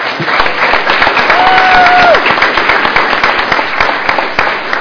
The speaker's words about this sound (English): And finally, we would like to give a warm round of applause to Coach Jeremy Elliott.